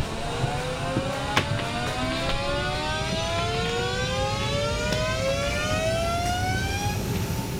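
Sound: aircraft engines starting up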